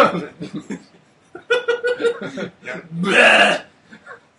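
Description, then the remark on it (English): Breathy giggling and snickering voices, then a loud, raspy burp lasting about half a second, followed by a brief quiet vocal sound. “Sorry, I'm not pro enough to not burp on the podcast, but that's what you get.”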